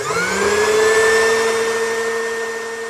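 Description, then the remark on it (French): A vacuum cleaner runs steadily as someone plays at doing housework, its motor whine rising briefly in pitch at the start before settling into a loud, continuous drone with a breathy rush of air. “Chloé joue à faire le ménage.”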